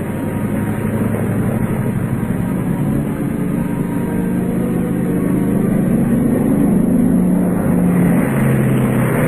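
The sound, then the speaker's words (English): A steady, heavy drone of a B-29 bomber's piston engines runs unbroken throughout, a deep rumbling hum with a faint pulsing low tone rising slightly toward the end. “B-29s have done a lot of memorable things, but none of them ever before had a mission quite like this one.”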